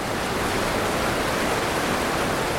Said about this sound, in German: Klingt vielleicht nach einem reißenden Fluss, ist aber tatsächlich nur eine Versuchsrinne. 30 Meter ist sie lang, ungefähr einen Meter breit und ebenso hoch. Schaut man nach oben, ist da kein blauer Himmel zu sehen, sondern eine graue Betondecke.